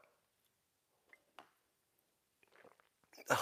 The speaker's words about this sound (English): It's called the simultaneous sip. Ready? Go.